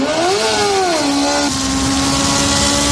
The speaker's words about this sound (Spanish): Los motores volverán a rugir en la capital, aunque esta vez no será en las afueras, como antes en el circuito del Jarama.